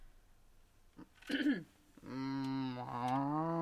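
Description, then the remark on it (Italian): A person imitates a cow, giving a short strained grunt followed by a long, loud, droning moo held until the end. “Questa è appena svegliata la mucca.”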